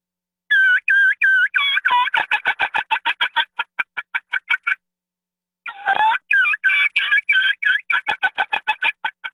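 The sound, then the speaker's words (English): A turkey mouth call plays a kee run: clear whistled notes breaking into a quick series of high-pitched chirps, then a short pause and a second, similar run. “And the only way you can get them on your mouth call is you got to practice.”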